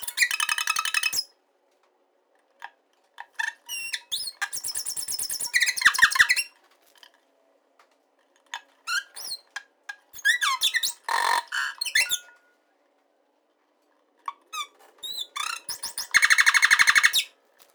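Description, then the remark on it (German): A nightingale sings alone, delivering loud, varied phrases of rich whistles, rapid trills and sharp repeated notes, each burst separated by short pauses. “Das war dann das erste Mal, dass ich eine Nachtigall auch gesehen habe.”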